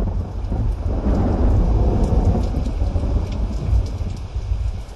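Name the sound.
thunder rumbling with rain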